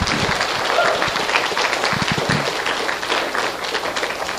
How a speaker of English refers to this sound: another round of applause